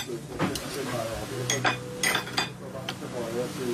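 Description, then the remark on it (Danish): Metal cutlery scrapes and clinks against a plate in quick, bright strokes as the plate is scraped clean after eating, several sharp scratches spread across a few seconds, with a low murmur of voices underneath. “Du tager simpelthen og skraver tallerkenen.”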